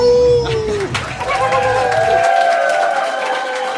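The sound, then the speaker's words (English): A burst of studio audience applause, steady and loud for a few seconds, with rapid clapping mixed with whoops and high, sliding whistles from the crowd. “Wow, we get a hell of an applause. We have an in-studio audience.”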